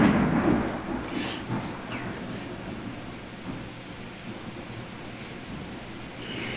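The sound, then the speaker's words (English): A deep, rolling rumble of thunder during a storm, loudest at the start and fading into a long, low growl, with a steady wash of wind and rain-like noise throughout. “The Thunder Day reminds me of the fear of God.”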